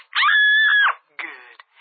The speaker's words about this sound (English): Scream into the phone one more time, would you, doll?